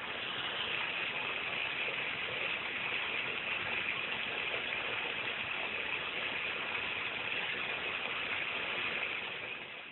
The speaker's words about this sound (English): The obvious thunderstorm sounds were followed by the sound of water flowing through a storm drain pipe on the Virginia Tech campus during a rainy October morning.